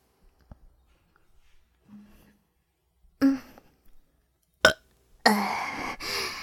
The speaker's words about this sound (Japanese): んじゃ、今日はゲップ、たーくさん聞かせてあげるからね。フェラしながら耳元でゲップして、その後はゲップ聞かせながら、ラバースーツで手こきで、行くっすよ。